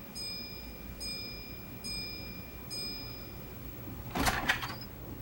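door opening

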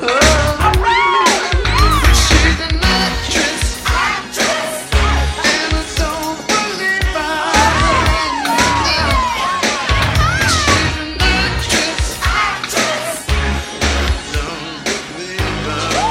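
crowd

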